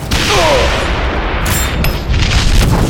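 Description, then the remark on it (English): A loud blast from Rogra's cannon erupts into a sustained explosive roar, with further booming bursts cutting through the heavy rumble over a few seconds. No voices are heard. “Rogra's cannon fired again.”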